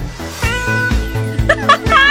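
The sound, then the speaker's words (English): A steady musical loop used as telephone hotline standby music, with a repeating beat and sustained tones, overlaid by several rising, warbling meow-like sounds near the end, loud. “Cats Hotline. This is our standby music.”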